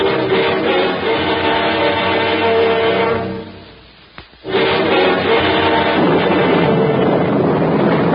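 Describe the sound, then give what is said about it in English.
A loud, roaring storm wind howls and buffets steadily, dropping away briefly into a lull with a faint crack before surging back just as strong. No one speaks. “Listen to the blow, Johnny.”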